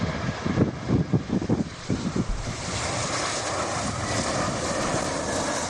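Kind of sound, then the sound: vehicle, airplanes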